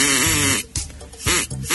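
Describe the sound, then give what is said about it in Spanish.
A duck call whistle blown in two long, wavering blasts, each a buzzy, nasal tone that sounds more like a goat's bleat than a quack, with a brief gap between them and no talking. “Me dijeron que era un pato, pero no suena como un pato, ¿no?”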